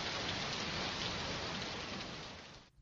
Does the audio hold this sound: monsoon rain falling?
yes